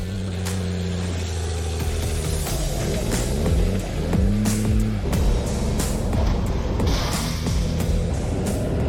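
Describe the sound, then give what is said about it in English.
Heavy bus engines roar and rev loudly, their pitch rising and falling, while sharp metallic crashes and bangs repeatedly break through as the buses collide in a part race, part demolition derby at Cedar Lake Speedway in New Richmond, Wisconsin, on a Saturday evening. “The wheels on these buses go crash, bang, boom.”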